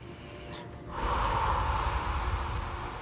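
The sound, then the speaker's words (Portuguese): A single long, deep breath: a soft breathy hiss swells after about a second and holds steady to the end. Airy and fairly loud, with no voices. “Respirando profundamente.”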